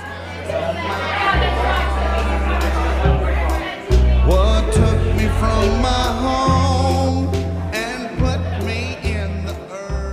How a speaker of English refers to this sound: A crowd of men and women throng the Stanley Beer Yard in Johannesburg.